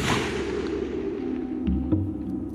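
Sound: gunshot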